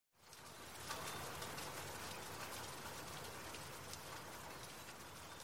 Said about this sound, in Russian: Дождь начался ночью, тихо, украдкой, как вор, застилающий мир серой пеленой. К утру он не кончился, не превратился в ливень, а так и остался висеть в воздухе, мелкий, назойливый, проникающий во все щели. Он был не водой, а состоянием.